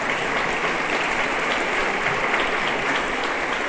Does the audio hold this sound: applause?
yes